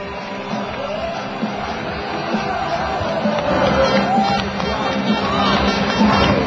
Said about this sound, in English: And listen to these cheers as the bus is in view of those fans now.